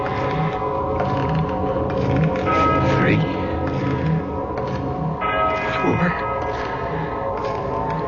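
A church bell far off in the distance strikes the hour repeatedly at a slow, steady pace, each deep stroke ringing into the next and building a dense, sustained hum of overtones, loud and continuous for the whole stretch.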